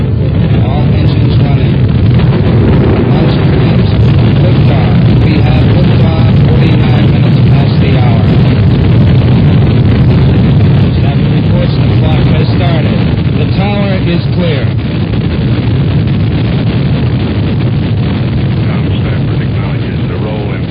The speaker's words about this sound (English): We have ignition sequence starts. Engines on 5, 4, 3, 2.